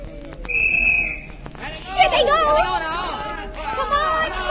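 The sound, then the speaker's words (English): A referee's whistle gives one sharp, shrill blast lasting about half a second during a basketball game, cutting through the noisy chatter of a crowd that keeps buzzing loudly afterward. “Why that whistle so soon?”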